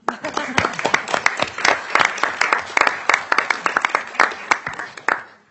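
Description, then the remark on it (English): People at a legislative committee meeting applaud, many hands clapping in a dense, steady patter that carries on for several seconds before tapering off at the end. “And so with that, Representative Green, I'll allow a little bit of applause.”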